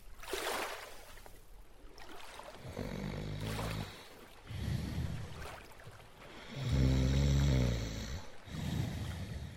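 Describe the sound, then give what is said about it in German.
Loud snoring repeats in slow rhythm, about four rumbling, raspy inhales with airy breaths between them and no talking over it. “Oh, aufwachen. Wie kannst du jetzt schlafen?”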